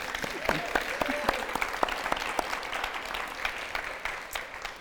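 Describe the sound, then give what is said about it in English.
An audience applauds author Joanne Harris as she is introduced, steadily for about five seconds, a dense, even patter of many hands clapping at moderate volume, with a few sharper claps standing out and faint murmuring underneath. “Please give it up for Joanne Harris. Sorry to make you clap again.”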